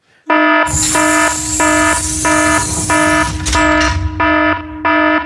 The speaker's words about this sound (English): The alarm was a little dodgy towards the end there, but it's all right.